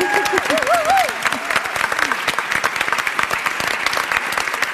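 An audience claps in dense, steady applause for a presenter at a stage event, filling the whole clip, with a brief voice rising over the start before the clapping carries on alone.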